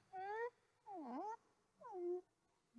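A cat meows three times in quick succession, each call drawn out and bending in pitch, clear, with short pauses between and no talking.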